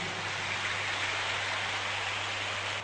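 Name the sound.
children's applause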